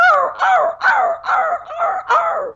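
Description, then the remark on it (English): A person imitates a puppy's distress cry, six loud, whining yelps repeated in quick, steady succession with a wavering, high-pitched tone and no talking. “I'm not a puppy, but I'm not bad at this one because I've heard it enough. It's a repeated cry.”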